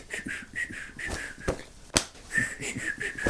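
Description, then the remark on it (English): A voice imitates a jaunty whistled tune, with sharp snapping flicks punctuating it in an irregular rhythm, including one loud crack midway, mimicking a man whistling while flicking his red braces as he walks along a corridor. “He always wore red braces, by the way, and he sort of walked along the corridor in Broadcasting House, whistling, and at the same time, he's flicking his braces, his red braces, so you heard a”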